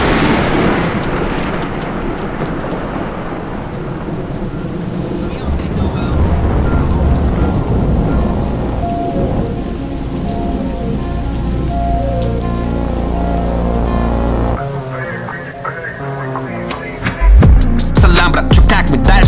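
Steady, heavy rain hisses throughout while deep thunder rolls and rumbles underneath, with a low sustained tonal hum, and a sharper, louder thunder crack bursts in near the end.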